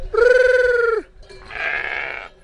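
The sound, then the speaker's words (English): Sheep from a flock of ewes and rams in a remote region of southern France bleating: a loud, drawn-out bleat that drops in pitch at the end, then a second wavering bleat from another animal, with no one talking. “Today he makes his living selling lambs from his flock of 350 ewes and a handful of rams.”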